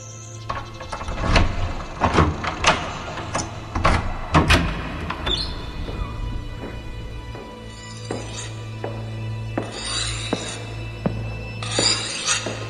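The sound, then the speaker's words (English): A heavy mechanical door slides open with clanks and metallic impacts, followed by a sustained low hum and airy hissing bursts, loud with no talking. “Open the door.”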